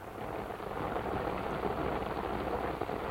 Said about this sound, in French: Mêlée de dur grésil, la pluie nous cingle au visage. Nous marchons en aveugle dans un vacarme d'eau bondissante où se perd le bruit de nos pas.